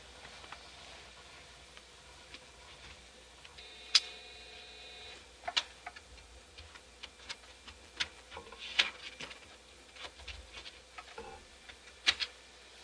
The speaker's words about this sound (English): you can hear it grinding and grunting away, copying these files over. It's reading files off the floppy and onto the hard drive.